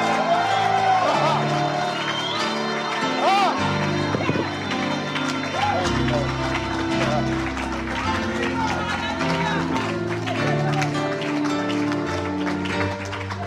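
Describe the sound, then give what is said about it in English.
A crowd at a Christian prayer gathering claps steadily and shouts and whoops together when told to clap and shout, the dense clapping running throughout over loud, sustained low musical tones, with excited voices rising above the noise. “Clap your hands, all ye people, and shout.”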